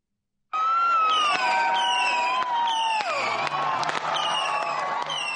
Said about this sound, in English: Thousands of fans gathering to cheer. This morning, the Red Sox pulled back into their beloved Boston and were met by those fans at Fenway Park.